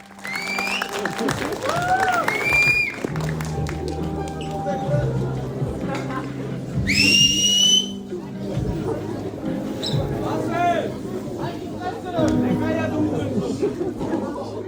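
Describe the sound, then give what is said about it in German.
A rowdy cinema audience, including a few shouting youths, yells and chatters over one another during a film in a constant loud din, with shrill rising whistles cutting through early on and again in a sharp burst midway. “Und wir können euch jetzt mal gleich einen Sound einspielen, wie das im Kino war.”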